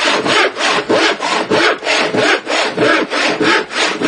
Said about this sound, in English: Now, I'm going to saw off just a little bit of pipe so that we've got enough room there in the tank.